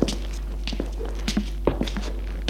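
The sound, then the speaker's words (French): Footsteps climbing stone stairs from a dark entryway up to the third floor, a series of hard, uneven thuds and scuffs at a steady pace, over a constant low hum with no voices. “Elle est sombre, mais les escaliers sont de pierre. Il monte jusqu'au troisième étage.”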